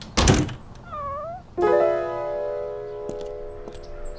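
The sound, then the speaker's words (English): A cat meows indoors, one short bending meow just after a dull thump, followed by a long, steady drawn-out tone that fades slowly. No one is talking. “No, you stay inside, Ding. You're an indoor kitty.”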